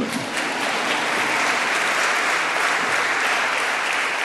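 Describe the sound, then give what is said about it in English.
Sustained audience applause fills the whole stretch, a dense, steady wash of many hands clapping at once after the speaker prompts them to clap, loud with no talking over it. “You know, when you have no hands, you have to get other people to clap for you.”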